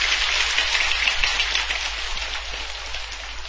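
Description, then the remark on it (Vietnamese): An audience applauds steadily at a Buddhist gathering for building the Quảng Đức temple, a dense wash of many hands clapping at fairly even loudness throughout, with no voices over it. “Hãy dành một tràng vỗ tay nữa.”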